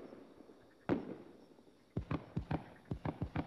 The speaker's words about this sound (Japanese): こないな綺麗な花火やとは思ってまへんどした。